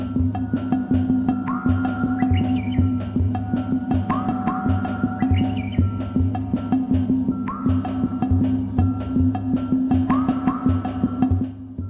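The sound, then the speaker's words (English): A Japanese bush warbler sings clear whistled phrases within a piece of music, repeating about every three seconds over a loud, steady throbbing drone that fills the background. No one speaks. “She asked me, like, she wants the Japanese bush wobbler inside of the music, and it's just, you can hear Japanese bush wobbler.”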